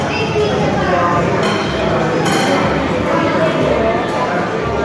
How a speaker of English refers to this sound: Here at Nashvilleze in Pilsen, authentic cutlery noises and eating things. I'm going to get right into it because it's probably very loud and we're probably not going to use this at all.